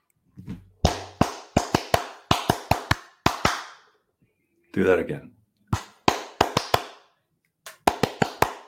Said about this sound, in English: All right. You've mentioned this a few times. What's an 8 clap?